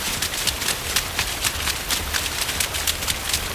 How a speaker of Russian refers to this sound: Ну вот, я же говорила, что дождь будет. Надо поскорее куда-нибудь спрятаться, чтобы не промокнуть.